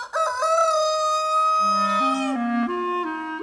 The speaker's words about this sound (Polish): Dwa koguty. W Lututowie pod Sieradzem, zresztą wieść tę sprawdzić radzę, żyły niegdyś dwa koguty. Dwa koguty kałakuty.